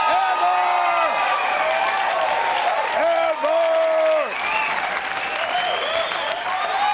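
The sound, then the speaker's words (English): A studio audience applauding ironically, clapping steadily and loudly for the whole stretch, a dense wash of applause with a few voices rising above it. “But then, by the way, I just want to point out to the audience at home, they are applauding ironically.”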